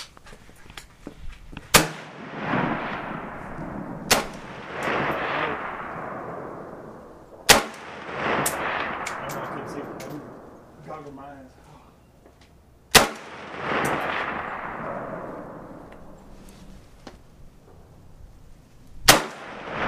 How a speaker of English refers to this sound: You hit number three. Try not to shoot that high.